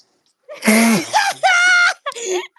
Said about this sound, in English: Who the fuck was that? Did you just announce your sneeze